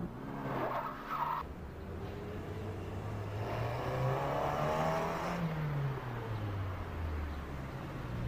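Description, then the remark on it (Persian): A car engine revs up and accelerates away as the driver heads toward the company, its low pitch climbing and then falling, with a brief tire screech near the start. Loud and continuous, with no talking. “دیگه خدا میدونه با چه زحمت و مادر بزرگ از ماشین پیاده کردم، گازش رو گرفتم سمت شرکت.”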